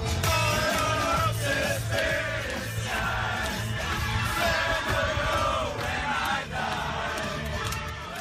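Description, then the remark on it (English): A rowdy group of revellers on a party bike, a so-called cycle bus, cheers and shouts over thumping party music, with whoops and yells rising throughout, loud and continuous for several seconds. “Let's have a listen to some revellers on the so-called cycle bus.”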